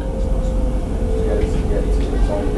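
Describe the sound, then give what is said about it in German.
Steady, loud rumble of a Newcastle metro train in motion, heard from inside the carriage, with a constant motor whine riding over the deep low-end drone and faint rattling throughout. “Wir gehen zurück zur U-Bahn.”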